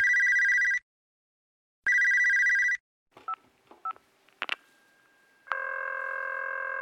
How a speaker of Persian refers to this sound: تلفن زنگ می زند و پیغامگیر به کار می افتد.